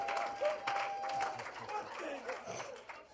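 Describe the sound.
A church audience claps for the Lord Jesus, steadily in a dense, continuous patter, mixed with crowd murmur and a few voices rising over the applause, with a brief sustained tone near the start.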